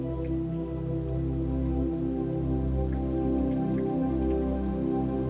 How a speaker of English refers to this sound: You see the clouds slowly roll in and begin to feel little droplets of rain hitting your skin.